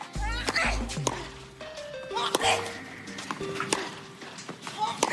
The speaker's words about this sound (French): L'autre particularité de Monica Seles, vous vous en souvenez peut-être, c'était ses cris, voire ses grognements lorsqu'elle frappait la balle. Comme ici, en 1993, lors d'un match contre Steffi Graf, qu'elle finira par remporter.